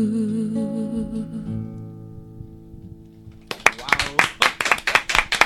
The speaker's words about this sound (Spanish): Bueno, los aplausos de respetable, que hoy es escaso aquí en el estudio de la radio.